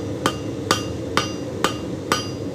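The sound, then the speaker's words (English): A blacksmith's hammer strikes metal on an anvil six times at a steady, even pace as a scroll is forged, each sharp blow leaving a bright metallic ring, with no one talking. “Back at the anvil, the scroll is taking shape.”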